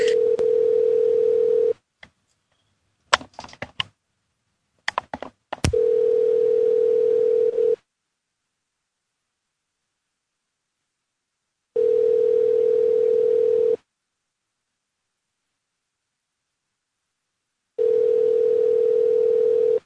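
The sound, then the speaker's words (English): A dial tone gives way to a quick burst of dialing clicks and beeps as someone calls a person back, then a telephone ringback tone sounds three times, each steady two-second ring separated by long pauses of silence. “Yeah, well, we could try calling her back.”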